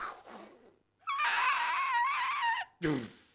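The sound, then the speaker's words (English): A voice imitates a car crash: a long, high, wavering screech held for about a second and a half, followed by a short, harsh burst that drops in pitch. “Give me another sound effect to do. Crashing car.”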